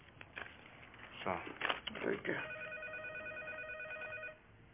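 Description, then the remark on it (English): After a few brief voices and rustling bursts, a telephone rings with a steady, warbling trill for about two seconds, then stops. “Just get the phone.”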